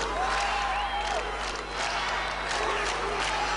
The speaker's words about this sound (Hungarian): A tömeg bíztatta a kormányfőt.